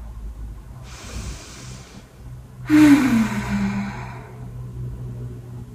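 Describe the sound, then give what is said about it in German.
A slow, deep breath in followed by a longer, louder exhale with a sighing quality, taken during a breathing exercise, no talking, a low hum underneath. “Genau, lass uns gut mal zusammen ein bisschen atmen.”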